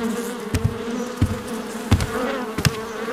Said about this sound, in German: So viele Fliegen hatten wir noch nie um diese Zeit.